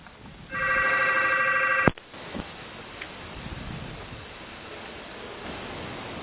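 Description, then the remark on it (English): A single electronic telephone ring from a phone call in a hotel room sounds for about a second and a half, steady and fairly loud, then cuts off with a click, leaving a faint hiss of background noise. “I think Bart had a phone call he had to take”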